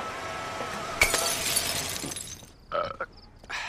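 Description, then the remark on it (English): A glass vodka bottle, tossed down by Jorgen as his convertible pulls up to a curb on a quiet residential street, hits the ground with a sudden loud crash and shatters. A bright spray of breaking glass rings out for about a second, then scattered tinkling bits clink and settle. “Jorgen polishes off a bottle of vodka as he pulls up to a curb, then tosses it down.”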